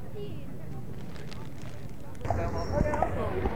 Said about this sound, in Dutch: Nou, we lopen op het Rokin. Achter de gebruikelijke paarden aan, een bruine en een witte deze keer.